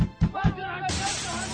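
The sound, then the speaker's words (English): A couple of sharp impacts, then a bright, sustained, loud crash of shattering glass that fills the rest of the moment, with a faint voice-like murmur in the background. “In the early morning hours of November 10, 1938, Jews experienced events of a night long remembered when in Germany and Austria they endured Kristallnacht, the night of broken glass.”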